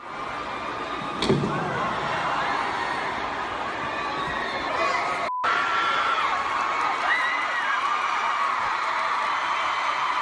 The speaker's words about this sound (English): But listen to the screams of horror from all the 13-year-olds.